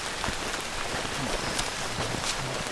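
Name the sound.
rain falling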